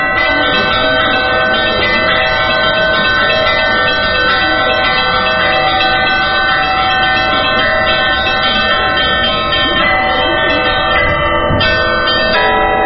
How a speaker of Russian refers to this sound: Один из руководителей этого общества, Константин Мишуровский, демонстрирует свое искусство на звоннице крошечной церкви Иова Почаевского.